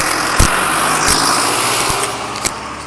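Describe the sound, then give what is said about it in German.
A truck engine drives past on a busy road in an industrial area at about 8 a.m., a loud steady roar and rumble filling the whole clip, broken by a few sharp clicks. No one speaks. “Lassen wir den LKW mal vor.”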